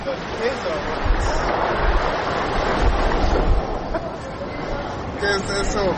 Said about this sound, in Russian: Наконец-то океан Атлантический. Покой, шум прибоя.